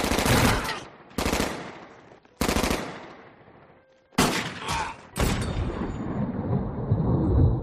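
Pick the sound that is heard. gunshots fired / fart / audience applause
gunshots fired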